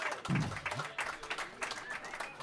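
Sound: audience clapping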